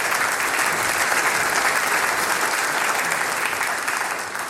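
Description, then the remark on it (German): Sustained audience applause as Mayor Wolfgang Gohmer is invited onto the stage for an interview, a dense steady crackle of many hands clapping at once, loud and even throughout with no voices standing out. “Mit einem großen Applaus, Bürgermeister Diplom-Ingenieur Wolfgang Gohmer.”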